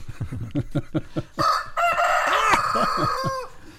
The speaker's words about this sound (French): Un petit jingle de un petit poulet.